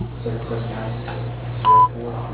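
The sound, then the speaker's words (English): A single short, steady voicemail answering-machine beep on the line of MWG Concrete and Repel Concrete Protection and Restoration, at a mid-high pitch, rings out loudly over a muffled telephone line with low hum and hiss, following faint, indistinct voice sounds. “Please leave a message at the beep, and I will get back to you as soon as possible.”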